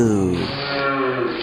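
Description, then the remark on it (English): A voice imitates a cow's moo in one loud, drawn-out, nasal call that stays steady for a second and a half, with no other sounds around it. “Kind of sounds like a cow mooing, doesn't it”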